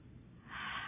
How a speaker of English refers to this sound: Just breathing out.